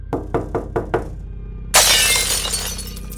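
Five quick, sharp bangs strike glass in a steady rhythm, then after a brief pause a kitchen window bursts apart in a loud, sustained shatter of breaking glass that trails off in scattered fragments.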